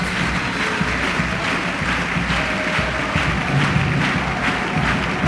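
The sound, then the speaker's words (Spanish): Sustained audience applause for the chirigota carnival group "Cuando tú vas, yo vengo" as it leaves the stage, a dense, steady wash of many hands clapping at an even, loud level, with a faint murmur of the crowd beneath and no one speaking. “Que reciben el aplauso del respetable.”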